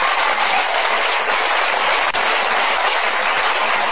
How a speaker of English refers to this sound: Give her a great round of applause.